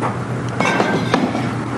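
A man drums his fingers on a bar counter after a bartender pours him bourbon: a handful of quick, light taps in an uneven patter over a steady low hum.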